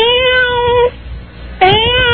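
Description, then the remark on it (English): A cat meows twice, loudly, with drawn-out, tonal cries separated by a short pause and a faint background hiss. No one speaks. “Oh, kitty.”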